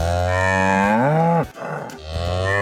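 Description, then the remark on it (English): A cow moos loudly in a long, drawn-out low bellow that rises at the end, then, after a brief pause, starts a second moo; the beef cow sound used as a contest cue on WRCO radio. “Starting May 20th, listen for the sound of our beef cow sizzle on WRCO.”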